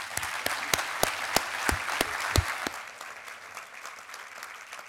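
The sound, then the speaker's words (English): An audience at the Chalk Valley History Festival claps steadily to welcome a speaker, many hands blending into a dense patter with a few sharper, louder claps standing out early before the applause thins slightly toward the end. “So a big round of applause, please.”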